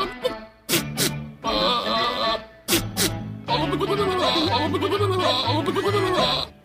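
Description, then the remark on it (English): A goat bleats loudly in long, wavering, nasal cries, with brief sharp bursts between calls and a low droning tone underneath that sounds almost tuneful. “Sounds like a snowblower about to go on. Yeah, this goat could have gotten me out of my house.”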